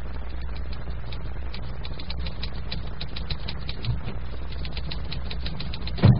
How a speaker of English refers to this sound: The scene is again the doctor's office, and Judy is again pounding the typewriter.